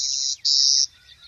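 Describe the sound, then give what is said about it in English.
Two flat, insect-like buzzes, the song of a clay-colored sparrow, the second longer, clear with a soft low rumble of background noise and no talking. “It's the song of a clay-colored sparrow.”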